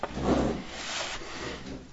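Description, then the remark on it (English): A wooden chair is pulled up, scraping and dragging across the floor for about two seconds, a rough grinding rub that swells early and then trails off, with no voices. “Pull one chair up.”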